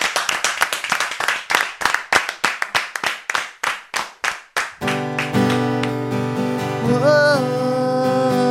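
An audience claps in a steady, even rhythm for about five seconds, sharp and fairly loud, before sustained music with held tones begins and carries on to the end.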